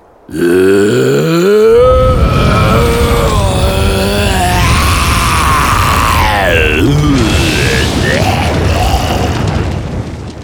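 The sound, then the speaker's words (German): A loud, terrible roar rumbles from inside an igloo as a jet of fire shoots out, going on for about ten seconds, its growling pitch swooping up and down in harsh, gravelly waves with no talking over it. “Und als plötzlich aus dem Iglu ein Feuerstrahl schießt und sich zugleich wieder das fürchterliche Brüllen erhebt, da stolpern die beiden Eisbären vor Schreck ein Stück rückwärts.”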